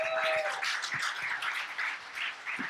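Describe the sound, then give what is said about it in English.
Steady, dense clapping from a group fills the whole stretch, a crackling wash of many hands at an even loudness with no voices over it. “You know, when I shout out to that, clap it up for that.”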